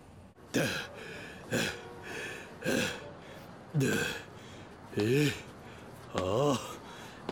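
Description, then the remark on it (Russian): Heavy, labored panting: six loud, rhythmic breaths roughly a second apart, some of them voiced and raspy like gasps after hard running, with no talking. “Чего ты дышишь так, будто бежал?”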